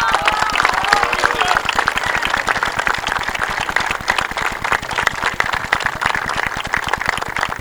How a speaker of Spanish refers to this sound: Así que muchas gracias y un aplauso realmente para ellos.